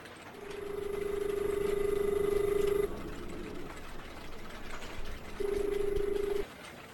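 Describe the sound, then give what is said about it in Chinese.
A telephone call being placed from a dormitory to a switchboard: a steady electronic ringing tone sounds for a couple of seconds, pauses, then sounds again briefly over a faint background hiss, with no voices. “我刚刚下来，回到宿舍就给你打电话。”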